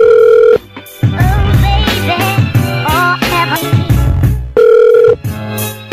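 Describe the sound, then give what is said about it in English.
A loud, steady telephone dial tone after a hang-up sounds briefly, cuts off, then music with a beat and a melodic voice plays before the same flat dial tone returns for another short burst. “Why you hang up on me, you woman?”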